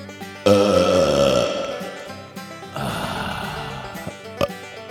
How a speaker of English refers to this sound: But CMT, this week, you get to taste my belch.